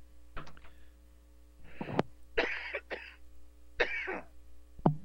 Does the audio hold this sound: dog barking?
no